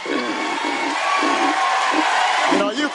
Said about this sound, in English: The useful idiots are cheering.